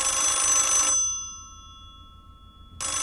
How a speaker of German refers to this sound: Aber ich habe mir erst neulich ein Festnetztelefon mit Wählscheibe gekauft. Den Fernsprecher W48 aus schwarzem Bakelit, der mit zwei Schellen klingelt.